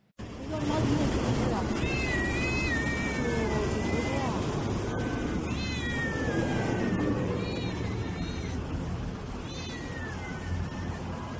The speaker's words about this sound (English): Here's a video that really needs no explanation. This is a video of large amounts of cats that are just kind of strewn about. These are people's cats and owners.